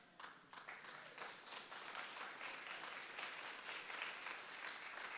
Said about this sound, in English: Now you're clapping, but you know that that has implications.